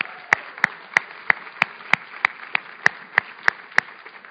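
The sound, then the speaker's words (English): A church audience claps together in a steady unison rhythm, about three sharp claps per second over a faint background hum, with no voices, applauding missionaries who are celebrating 60 years of marriage. “I'd like to give them a huge round of applause.”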